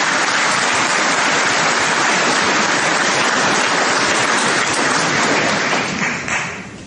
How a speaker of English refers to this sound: Well, the DUP leader, Arlene Foster, was applauded as she entered this church today amid speculation as to whether she would even attend.